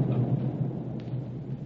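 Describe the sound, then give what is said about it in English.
A deep, rolling explosion boom from Galto Island, off starboard, rumbles steadily throughout, a low, muffled, thunder-like roar with no voices present, holding at a moderate level without a sharp attack. “What was that? Sounded like an explosion, it did, sir.”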